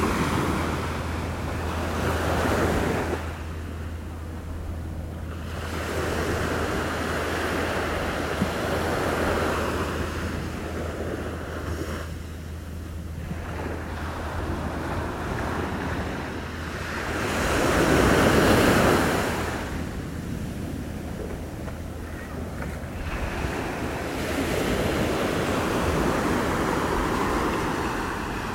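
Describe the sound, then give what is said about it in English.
Ocean surf washes ashore in broad, rolling swells, one wave cresting louder around the middle, with a steady low rumble and breezy hiss underneath and no voices. “And for a couple of moments, I'll just let you listen to the sound of the ocean.”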